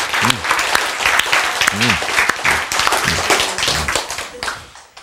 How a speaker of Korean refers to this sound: 박수 보내주세요.